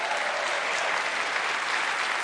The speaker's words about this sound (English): Well, if you love Jesus, let's really give him a hand clap of praise.